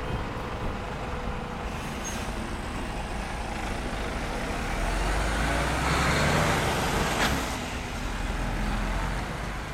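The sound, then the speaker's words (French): Steady roadside traffic noise at a roundabout in Revel, France, with trucks and cars rumbling past, a heavy vehicle swelling louder midway, with a brief hiss like an air brake. “À Revel, au rond-point où se trouvent les gilets jaunes régulièrement, tous les jours depuis le début du mouvement.”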